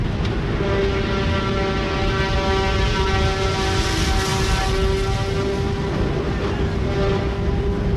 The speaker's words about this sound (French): Un ferry arrive. Pendant une heure, le temps du chargement des véhicules et des passagers, l'odeur de carburant étouffe celle salée de la mer.